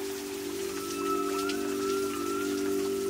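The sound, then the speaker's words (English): Heavy rain pours down steadily during a particularly heavy rainy season, a dense wash of patter, with a constant low mechanical hum running underneath the whole time. “This video was filmed during a particularly heavy rainy season.”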